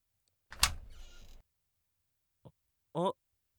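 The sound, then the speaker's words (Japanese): A door opens with a loud, rumbling slide lasting about a second, followed by a short click and then a brief vocal sound. “扉が出た。”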